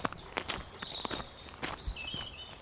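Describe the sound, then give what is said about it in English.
Footsteps walking outdoors on a farm, heading down to the Glenagannon River, a steady series of soft crunching steps at an easy pace, with faint bird chirps in the background and no talking. “We're walking down to the river.”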